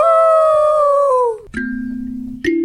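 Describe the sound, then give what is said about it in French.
A pack of white wolves howls: a long, loud, wavering howl slowly falls in pitch and fades, followed by lower, steadier howling tones that rise slightly at the end, with no voices. “Affamée, la meute de loups blancs ne put d'autre choix que les dévorer.”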